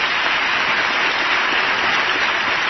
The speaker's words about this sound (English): That one always gets a lot of applause.